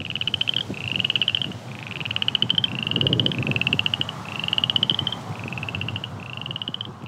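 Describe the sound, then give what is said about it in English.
Crawfish frogs call in a steady series of pulsed, snoring croaks, about one per second, on a sunny, warm late afternoon at a 98-acre preserve off Dead Horse Mountain Road in southeast Fayetteville, over a low rumbling outdoor background with no voices. “Crawfish frogs croak this sunny, warm late afternoon on a preserve located off Dead Horse Mountain Road.”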